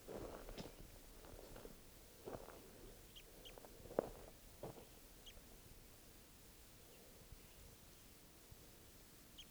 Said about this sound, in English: One of the wild birds starting to call here.